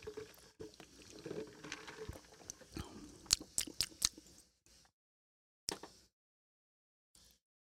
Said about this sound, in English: I need to take more. I'm going to sip of my Culver's tea here, apparently.